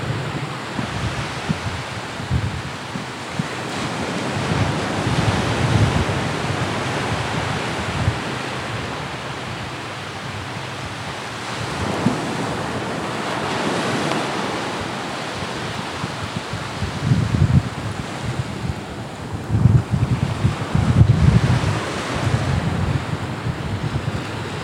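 Pacific Ocean surf washes onto the shore in a steady, broad roar, with swells rising and falling every few seconds and some wind rumble on the microphone; no one speaks.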